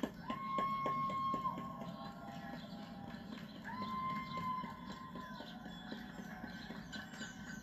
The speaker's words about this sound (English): People are clapping right here.